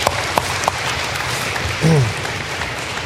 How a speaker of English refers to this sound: Clapping is our way of saying we're excited about this, and I'm really excited about this because it not only I think is this is an important thing for our church to be doing